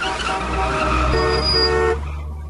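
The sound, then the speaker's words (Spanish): Car horns blare over a dense rumble of traffic on a bridge, with sustained honks layered on engine noise, loud, then cutting off near the end as the traffic hum continues; the chaos comes from parking in the middle of the bridge. “Le pide que se relaje en medio del caos que provoca, que se provoca ahí con el estacionamiento ahí en el medio del puente.”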